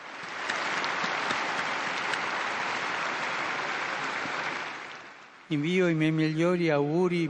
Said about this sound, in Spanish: Un aplauso para el nuevo Beato.